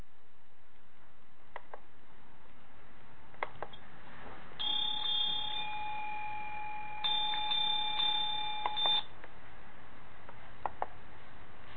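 A dairy cowbell rings for several seconds with a steady, sustained metallic tone, preceded and followed by a few sharp clicks, set against a quiet background with no one talking.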